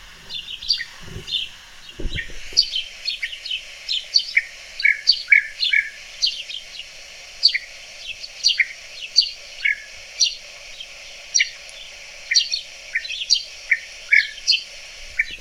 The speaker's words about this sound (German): Ja, Dieses und Tüt, das ist Tüt, ein Tüt. sehr, genau, und es ist ein sehr ruffreudiger Vogel und der sehr doll Kontakt hält, tritt meistens in großen Gruppen auf.